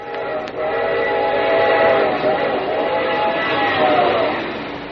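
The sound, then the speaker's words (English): A train thunders past on shiny rails, its steady roar sustained throughout with whistle-like tones ringing above it, swelling slightly in the middle before easing off at the end. “And just think, someday, men will build a railroad with shiny rails and trains will go thundering by.”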